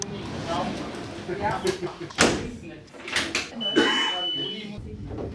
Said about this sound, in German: Die Tür der großen Fellhornbahngondel schließt und sanft hebt die Gondel ab. Von 900 geht es auf knapp 2000 Meter hinauf.